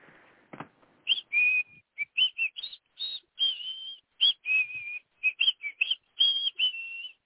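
A person whistles a show tune quickly and brightly, a rapid run of short melodic notes with a few held ones, clear, with no talking.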